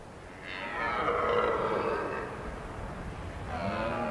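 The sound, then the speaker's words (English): A red deer stag roars during the autumn rut in the highland glens, a long, deep, groaning bellow that swells and fades, followed by a second roar starting near the end, carrying across open ground. “It's the red deer stags starting their rut.”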